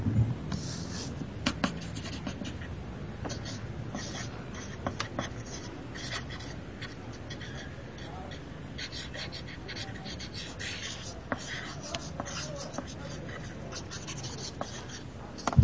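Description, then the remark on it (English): Steady scratchy pencil drawing and brisk erasing run throughout, broken by occasional light, sharp knocks as the erasing makes a table bump against a wall, all fairly soft. “A little bit of, like, table banging against a wall a little bit from erasing, yeah?”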